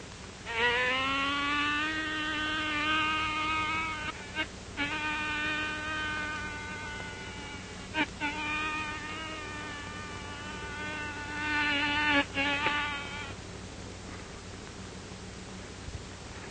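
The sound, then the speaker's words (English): A voice imitates a bee with a loud, steady, nasal buzzing hum, held for several seconds at a time with a few brief breaks, then fading into quiet background noise. “Whippoorwills, bobwhites, birds, and bees. A fine pal you are.”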